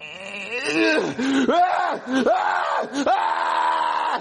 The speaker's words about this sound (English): You just gotta keep yelling louder and louder and louder! Ah! Ah! Like this!